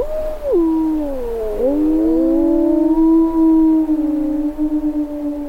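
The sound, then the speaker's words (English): Several wolves howl together in Yellowstone in February 2014, a loud, continuous chorus, their long tones sliding down and then holding steady while overlapping at different pitches. No one speaks. “The sound of wolves in Yellowstone in February of 2014.”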